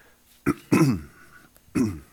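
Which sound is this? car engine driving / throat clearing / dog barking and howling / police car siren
throat clearing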